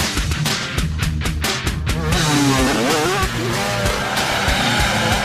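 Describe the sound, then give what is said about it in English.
A motocross motorcycle engine roars loudly on a track, its pitch climbing and dropping through rapid revs, with sharp bursts early on and a steady, buzzing snarl throughout. “But I really love tearing up the track and just hammering jumps.”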